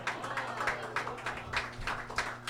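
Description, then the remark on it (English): Small, polite applause: a few people clapping lightly and unevenly for a couple of seconds, soft overall, with a steady low hum underneath and no talking. “That was a very respectful applause from you guys.”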